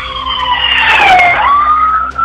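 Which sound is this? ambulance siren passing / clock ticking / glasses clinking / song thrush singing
ambulance siren passing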